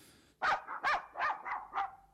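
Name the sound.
dog barking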